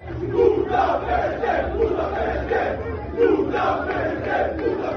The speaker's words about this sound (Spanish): pero esta tarde se escuchaban estos cánticos en la llegada del equipo al hotel.